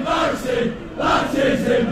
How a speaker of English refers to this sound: Same phrase over and over again. We're hearing it that differently every time. I know. So that's kind of been going viral on TikTok. What is this soccer crowd chanting?